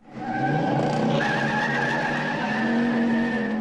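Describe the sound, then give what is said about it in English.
Tires skid and squeal continuously over a roaring car engine, a loud, sustained high screech with shifting pitch lasting several seconds, like a movie car chase. No one speaks. “Next year marked the 40th birthday of the modern movie car chase scene.”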